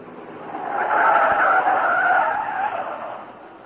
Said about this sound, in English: stop the car.